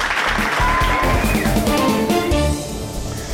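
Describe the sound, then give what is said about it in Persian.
A crowd claps in a dense, steady burst of applause, with some tonal sounds mixed in; the clapping stays loud throughout and eases slightly after two and a half seconds. “دست راستشون زیر سر روزنامه‌های عافیت طلب و گوش به فرمان، تشویق.”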